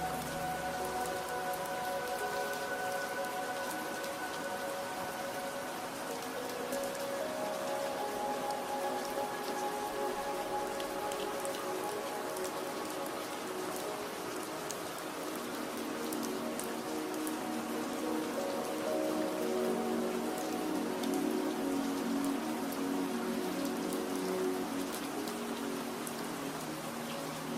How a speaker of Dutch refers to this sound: En je ligt hier, omringd door de rustgevende geluiden van de regen en het knisperende hout in de open haard.